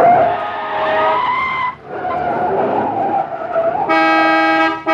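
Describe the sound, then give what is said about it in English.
Tires screech loudly as a car skids past people dashing across a street while the lights are green. The squeal breaks off briefly before resuming, then a sustained horn blares near the end. No one speaks. “Let's dash across while the car... Wait, McGee. The lights are green. Watch out.”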